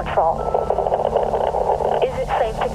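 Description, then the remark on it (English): A muffled, tinny voice calling for a patrol crackles through a faint radio transmission at a graveside, buried in a steady wash of static hiss that runs the whole time, with the words too garbled to make out. “I turned around and began to walk toward my car, and that's when I heard it, faintly, muddled, and riddled by static.”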